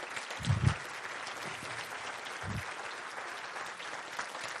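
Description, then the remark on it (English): A crowd applauds the volunteers steadily, a dense wash of clapping sustained throughout, with a couple of low thumps near the start and again midway. “All the volunteers, can we please have them stand up so we can give them a big round of applause before we finish this thing up?”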